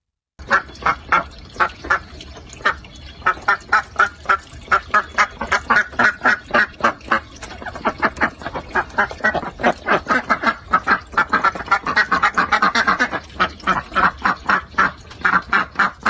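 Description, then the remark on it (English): Pet ducks near Melbourne quack in a steady stream of rapid, overlapping calls, several birds chattering at once, growing into a dense noisy flurry before settling back into regular quacks. “who is 9, from near Melbourne, recorded his pet ducks for me.”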